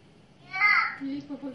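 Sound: young child babbling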